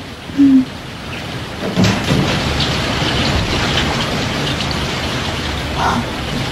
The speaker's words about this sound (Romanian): Venit de la Medelen, plouă. Dar mie îmi place ploaia.